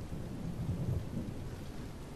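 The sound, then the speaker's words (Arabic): Steady heavy rain pours down with a deep, continuous rumble of thunder rolling underneath, filling the whole stretch without pause and no voices. “يجب أن تكونوا مستعدين كي ترجعوا إلى دياركم بعد أن يتوقف المطر.”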